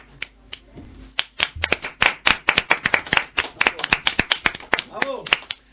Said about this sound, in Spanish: Bueno, pues vamos a dar un fuerte aplauso a Esther.